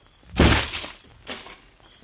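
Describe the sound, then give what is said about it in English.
A door of a building is kicked open at night in moonlight with one heavy, booming crash that rattles and fades, followed about a second later by a softer knock. No voices. “I'm going to kick open the door.”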